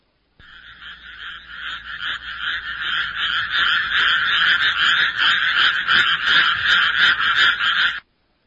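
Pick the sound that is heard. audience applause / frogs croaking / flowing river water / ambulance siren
frogs croaking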